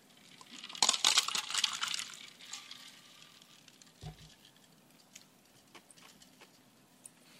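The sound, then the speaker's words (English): Someone drinks from a glass of water, with a burst of clinking and sloshing early on, then a soft thud as the glass is set down and quiet handling noises after. “Excuse me one second. I need a glass of water.”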